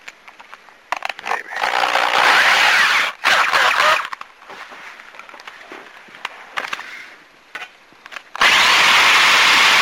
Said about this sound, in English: Maybe if I just drill it out just a little bit instead of drilling it all the way out, I can make something happen here.